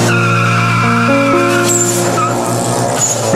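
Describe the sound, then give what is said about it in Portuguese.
A car engine roars loudly and steadily, its revving pitch shifting as tires squeal and skid over the last couple of seconds. “Hoje o ronco do motor despertou seu coração.”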